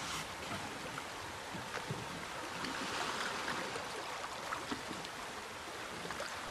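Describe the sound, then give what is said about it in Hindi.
A paddle moves through water with steady sloshing and swishing, small splashes now and then over a continuous wash of water, even in loudness throughout. “चप्पू पानी के अंदर।”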